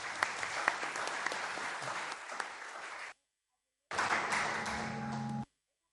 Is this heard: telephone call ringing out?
no